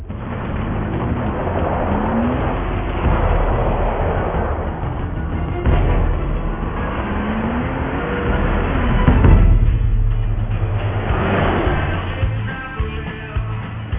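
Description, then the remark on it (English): A heavily loaded 15-ton RV's engine revs and labors steadily going up a 10% grade, rising in pitch as it pulls away, loud with a continuous low rumble throughout. “I mean, loaded down like this in a 15-ton vehicle, going up a 10% grade?”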